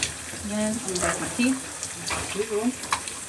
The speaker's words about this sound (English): I wash behind my ears with water, of course.